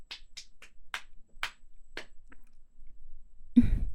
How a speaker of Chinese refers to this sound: 哎，亲爱的，你怎么呛到了？哎呦，你怎么这么不小心啊？这么大的人了，吃饭还能呛到？